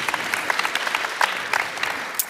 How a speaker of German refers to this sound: Ja, gib mir einen Applaus.